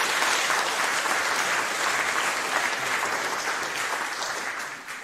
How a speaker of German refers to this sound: Herzlichen Dank dafür und ja, ich denke, das ist ein kleiner Applaus.